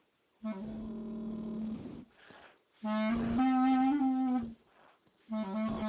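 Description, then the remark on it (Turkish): A low, reedy clarinet plays sustained notes in three phrases, each broken off abruptly by an audible, hurried breath taken in a badly placed spot, so the line sounds choppy and interrupted. No voices. “Şöyle olsa olur mu? Olmaz.”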